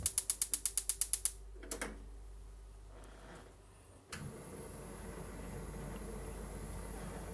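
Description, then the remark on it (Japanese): A gas stove igniter clicks rapidly about ten times, then after a pause the burner catches with a soft whoosh and settles into a steady flame hiss, turned up to maximum heat to warm food in a pot. “火力マックスで。”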